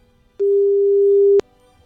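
One steady, mid-pitched telephone ringback tone sounds for about a second, beginning and ending with faint clicks, then silence, as Radio Ognjišče calls a listener from near Kranj and waits for the call to be answered.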